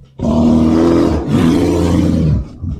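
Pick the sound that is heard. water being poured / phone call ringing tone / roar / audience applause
roar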